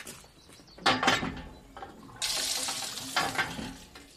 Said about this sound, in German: Wascht euch unter der Pumpe rasch.